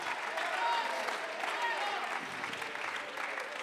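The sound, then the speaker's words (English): An audience claps their hands when asked to during a bilingual English-Spanish sermon, in a dense, steady burst of applause that holds at an even level throughout, with a few scattered voices mixed into the crowd noise. “Somebody clap a little bit right alguien now. Alguien aplaude sus manos.”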